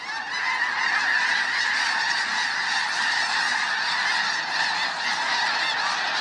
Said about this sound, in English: Here it is one more time. As the tornado of geese whirls in the air, their calls build to an enormous crescendo.